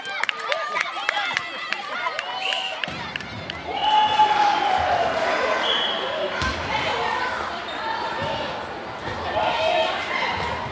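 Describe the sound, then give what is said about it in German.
Basketball and volleyball play in a school gym on a hot day: a ball bounces sharply several times, sneakers squeak against the floor, and a crowd of voices murmurs and calls out throughout the game. “Die Sonne brutzelt auf die Köpfe aller Beteiligten herunter und trotz des Daches über dem Kopf in der Turnhalle beim Basketball und Volleyball ist die Hitze deutlich spürbar.”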